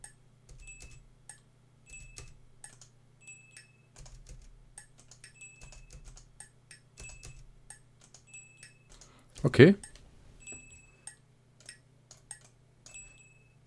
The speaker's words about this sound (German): Tasse, Stift. Ich habe mit der Tasse auf den Stift gehauen. Was ja auch einfach mal der übergeile Effekt ist. Ich auch einfach mal. Ich auch mal zeigen, wie das dann so klingt.